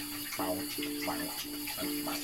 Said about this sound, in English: That's an interesting shower. It's like right in the middle. There's but no wall. There's no walls or nothing.